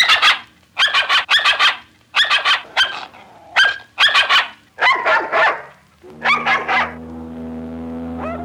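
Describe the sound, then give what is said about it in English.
A dog barks in quick clusters of sharp, yappy yelps, about a dozen loud bursts, ending in a steadier humming tone; the barks have an odd, gobbling quality. “It's the same dog as before.”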